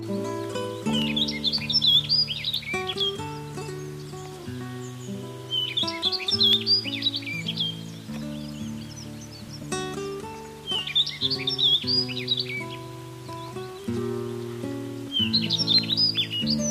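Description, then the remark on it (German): A rustic bunting sings short, bright warbling phrases, repeating about four times at regular intervals, clear, over a soft, steady bed of sustained instrumental music. “Das war die Waldammer.”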